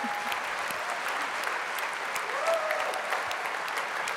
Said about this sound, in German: Ja, genau. Ihr dürft gerne erst klatschen.